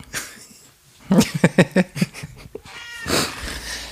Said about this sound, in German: Ich höre gerade, also gerade ist jemand hinter mir aufgewacht. Ich habe mich umgedreht und festgestellt, dass hier bei mir eine Katze im Raum sitzt. Also der Kater.